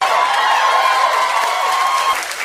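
A crowd applauds in a dense, steady wash of clapping and cheering for a couple of seconds, with a thin held tone running through it before easing off at the end.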